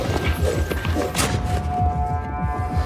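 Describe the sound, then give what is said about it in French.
Horse hooves clip-clop in a quick, steady rhythm of dull thuds that runs throughout, with a sustained tonal hum, like music or a drawn-out whine, layered over the hoofbeats. “Des chevaux, des coups de feu, 1860, des grandes étendues, c'est un western.”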